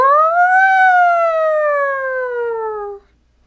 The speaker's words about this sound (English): And here comes the siren.